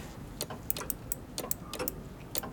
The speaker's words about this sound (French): Mon ami, peux-tu un instant écouter cette pendule que je viens de réparer ? Oui. Elle bat régulièrement. Attends. Oui. Son cœur est intact.